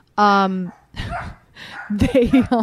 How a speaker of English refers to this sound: This just started happening, all this barking, right? You can attest to that. I can attest. It was nice and quiet.